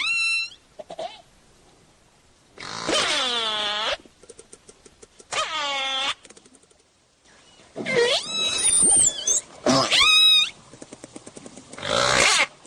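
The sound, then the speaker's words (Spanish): Dolphin clicks and creaky burst-pulse calls underwater, as heard when diving with dolphins, a run of squeaky, rasping bursts like a rusty hinge, with high harmonic squeals and faint click trains between them, no voices. “Es por eso que al bucear con delfines, el oído humano capta una serie de chasquidos y clics que en su conjunto suenan como una bisagra oxidada.”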